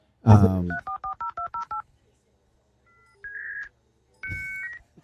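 dial-up modem connecting tones

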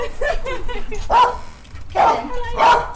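dog barking

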